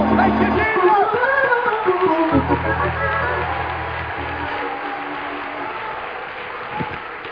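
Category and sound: crowd, audience hand clapping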